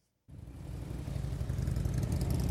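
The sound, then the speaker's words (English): Veterans' motorcycle engines start up abruptly and run steadily at the Massachusetts National Cemetery in Bourne, Massachusetts, on a Saturday morning, a dense, rumbling low-pitched drone that grows slightly louder and busier, as if several bikes are idling and revving together. “Veterans on their motorcycles were among the hundreds of volunteers who came to the Massachusetts National Cemetery Saturday morning to take part in Operation Flags for Vets.”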